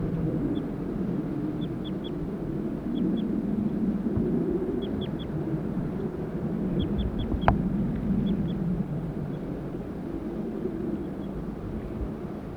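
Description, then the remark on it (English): Male and female birds call back and forth in short, high-pitched notes, grouped in quick bursts of two or three, repeating every second or so over a steady low rumble. “The birds are calling more loudly now.”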